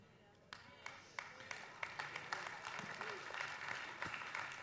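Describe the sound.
An audience breaks into applause, starting with a few scattered, sharp claps that quickly swell into steady, dense clapping at moderate volume, with a faint murmur of voices underneath.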